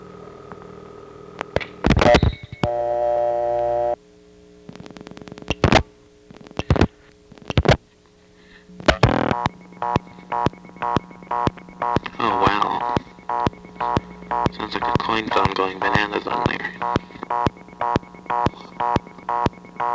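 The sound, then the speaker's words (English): A telephone reorder tone from a small step-by-step Bell System CDO pulses rapidly and steadily over a low line hum, broken up by loud clunks, clicks and erratic electronic tones from the malfunctioning coin totalizer of a payphone stuck on the reorder. “I came across a reorder in a nearby Bell System CDO, a small step, which had a payphone stuck on it.”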